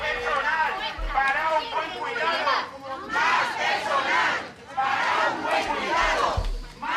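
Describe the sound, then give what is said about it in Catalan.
About fifty workers and residents protesting staff shortages and workload outside the doors of an elderly care home in Palma chant loudly in unison, repeating rhythmic shouted phrases in three bursts separated by brief pauses, with a rumble of crowd noise underneath. “Mig centenar de persones, entre treballadors i residents, s'han concentrat avui matí a les portes de la residència de gent gran d'Omutsví, a Palma, per a protestar per la manca de personal i la sobrecàrrega de feina a la qual han de fer front.”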